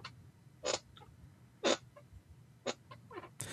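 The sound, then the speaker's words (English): Short, sharp squeaks from a broken, creaking chair come in irregular bursts, about four or five of them, fairly loud, with no voices over them. “That chair is so squeaky.”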